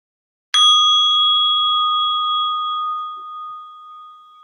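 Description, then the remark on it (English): A single meditation chime is struck once to open a three-minute body awareness meditation, giving a bright, clear ring that hangs in the air and slowly fades over several seconds, with no talking. “I'll start and end with one chime.”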